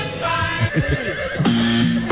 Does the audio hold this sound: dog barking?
no